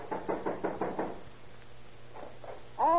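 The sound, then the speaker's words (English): Police officers knock on a suspect's apartment door in Oakland: a quick series of five firm knocks, a pause, then two more knocks, with a voice starting to speak just at the end. “Better try knocking”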